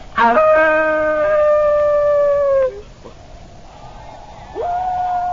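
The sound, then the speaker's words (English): A son out hunting with his father, away from their camp, lets out a long, wavering wolf-like howl that slowly falls in pitch, then goes quiet before a second howl begins at the end. “Why do you speak with the voice of the wolf?”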